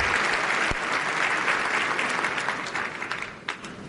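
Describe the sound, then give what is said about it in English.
Sustained audience applause for conductor Stefan Lano at a production of Margaret Garner, a dense steady wash of many hands clapping at full strength that begins to thin and taper slightly toward the end, with no voices rising above it. “Conductor Stefan Lano receiving the crowd's appreciation.”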